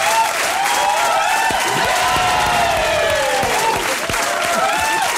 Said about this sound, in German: Kriege ich jetzt auch einen Applaus eigentlich, oder? Ja, warte, du Danke. Kriegst auch einen Applaus und der Hey. Klingt so.